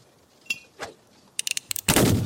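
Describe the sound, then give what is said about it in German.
Gunfire: a couple of isolated shots, then a rapid burst of sharp cracks followed by a loud, sustained blast. Punchy, with no voices. “Ich schieß auf Kevin. Zack. Guter Schuss.”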